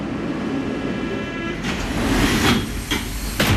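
An RER B commuter train in the Paris region rumbles steadily, with a faint high whine early on, then sharper rushing, clattering bursts as the carriages sweep past. No one speaks.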